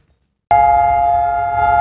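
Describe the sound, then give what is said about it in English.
After a brief silence, a civil defense siren in Israel starts abruptly and holds a loud, steady tone with a low rumble beneath it, sounding alone without any voices; it sounds yearly on Holocaust Remembrance Day (Yom HaShoah) as the nation stops for two minutes. “This siren sounds on this day every year in Israel as the nation stops for 2 minutes for Yom HaShoah, or Holocaust Remembrance Day.”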